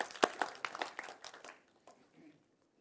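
A crowd claps in a brief burst of applause for Jesus, dense at first, then thinning out and fading to scattered claps and quiet within a couple of seconds.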